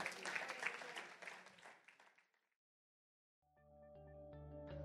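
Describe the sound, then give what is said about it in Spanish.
A church audience at New Generation Church claps loudly together for a couple of seconds, the applause thinning and fading into silence before sustained keyboard music begins. “Y denle un fuerte aplauso a Jesús. Give the Lord a hand clap.”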